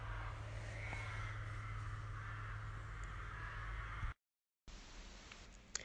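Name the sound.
crows cawing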